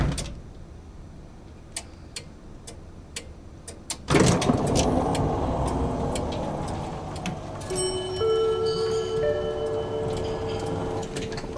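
A few sharp, evenly spaced clicks, then a car door thuds shut and an engine turns over and settles into a steady rumble in a parking lot, with faint electronic tones joining later.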